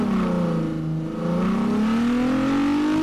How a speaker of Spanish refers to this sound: Apagué las luces del auto y aceleré.